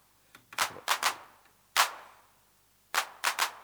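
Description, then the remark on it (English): Hand claps from an unmodified electronic drum machine, the first at full accent and the rest not, sharp bursts of bright noise with quick decaying tails, played in uneven groups with pauses between and no voices over them. “Now here's our hand clap on the unmodified machine. The first one is at full accent.”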